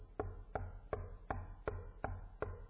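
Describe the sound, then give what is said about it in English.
Seven sharp, evenly spaced knocks in a steady rhythm, each a firm thud with a crisp attack, over a low constant hum and no talking. “It's knocking.”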